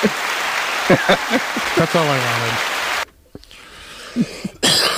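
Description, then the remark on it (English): An applause sound effect triggered by hitting an applause button: a burst of dense, crackling applause with voices and a cough mixed in, dropping away abruptly after about three seconds, then a short second swell of clapping at the end. “hit the applause button.”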